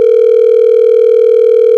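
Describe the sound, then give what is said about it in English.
A single steady electronic ringback tone from an outgoing phone call to Nick the Rat Radio, loud and unwavering for about two seconds before cutting off abruptly, with no voices. “How long will it ring?”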